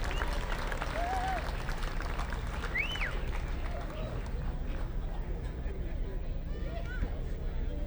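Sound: audience applause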